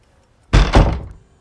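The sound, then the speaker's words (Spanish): A door opens with two quick, heavy clunks of the latch and frame, a broad thudding sound that rings briefly before fading into quiet. No one speaks. “abre la puerta.”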